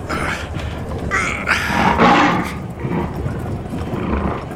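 A caged lion brought into a circus ring under the big top roars loudly, a rough, rumbling growl that swells in the middle and trails off into lower snarls, with no talking.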